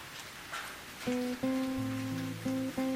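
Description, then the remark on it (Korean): A steady hiss of falling rain runs throughout, and after about a second soft sustained piano-like notes come in and play over it. No one speaks. “내 마음을 토닥이는 이 빗소리가 좋다.”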